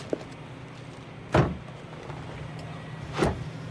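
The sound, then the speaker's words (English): Two car doors shut a couple of seconds apart, each a dull, solid thunk, over a low idling hum, as a woman gets into the passenger seat of a man's car and he sits behind the wheel. No one speaks. “She storms past him over to his car and gets into the passenger seat. He smirks as he joins her, sitting behind the wheel.”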